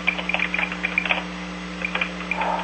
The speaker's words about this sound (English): And I hear you typing as well. I'm putting some of the stuff down here. I thought you were recording it. I am recording, but I'm also making a note right now about the chassis drawing coming my way.